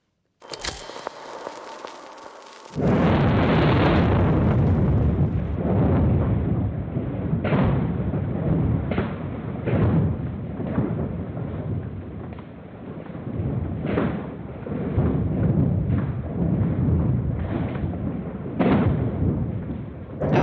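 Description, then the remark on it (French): A sound recording of an earthquake: a loud, continuous deep rumbling roar begins after a brief quieter crackle and keeps going, with repeated heavy thuds and cracks breaking through it. No one speaks. “On dirait un séisme.”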